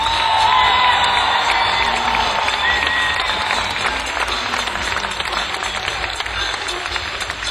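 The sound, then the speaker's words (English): A crowd applauds a band's drummer with sustained, dense clapping, steady and loud throughout, with a few cheers and whoops rising over the noise. “I think we ought to give another round of applause, ovation, if you will, because he works so hard keeping us playing together on the drums,”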